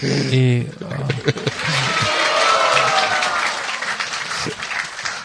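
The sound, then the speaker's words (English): An audience claps steadily as a garland is put on someone, a dense, sustained burst of applause lasting several seconds, with a brief voice audible at the very start before the clapping takes over. “They applaud to the garland, not to the magician.”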